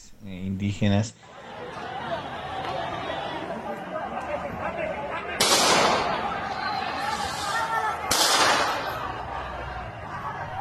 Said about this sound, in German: Die Schüsse kommen aus weißen Pickups ohne Nummernschilder. Viele vermuten, dass es sich hierbei um Polizisten in Zivil handelt.